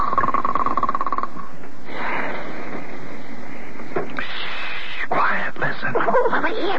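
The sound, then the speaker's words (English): A person fakes snoring with a run of breathy, rasping snorts and wheezes, fairly loud and uneven in rhythm, with no clear words spoken. “Now be very quiet and start snoring again.”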